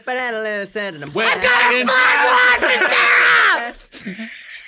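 A woman yells loudly and insistently at the Eltham Market, a farmer's market, on a Sunday morning; her raised, strained voice carries for several seconds before dropping off, with no other sounds around it.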